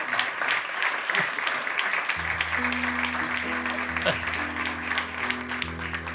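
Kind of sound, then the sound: crowd, strong applause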